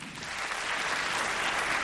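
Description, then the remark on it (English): A crowd applauds steadily, a dense wash of many hands clapping at an even, fairly loud level for the whole stretch, with no voices standing out; they clap in answer to being asked to clap if they knew their spouse three years or less before marrying. “Clap if it was 3 years or less.”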